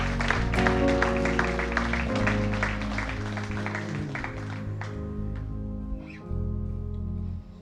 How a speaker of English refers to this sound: Give Him a nice hand clap right now, all of us together. Give the Lord glory and honor and power.